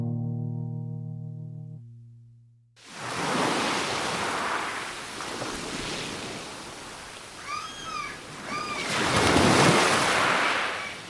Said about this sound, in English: The ocean. It's the place to clear my head, lose myself in a novel, get my creative juices flowing.